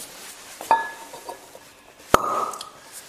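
cork popping

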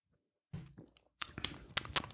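lip smacking

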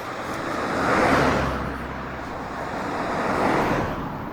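two cars passing by

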